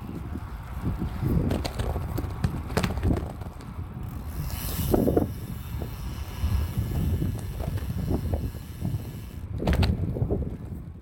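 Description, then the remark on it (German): A well-maintained bicycle's freewheel whirs with a fast mechanical ticking beneath heavy, gusting wind rumble during a ride of several kilometres in heavy rain, broken by a few sharp clicks and clunks, with a louder burst near the end. “Da hört man noch am Ende den Freilauf surren.”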